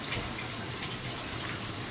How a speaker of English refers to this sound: I was just trying to take a shower.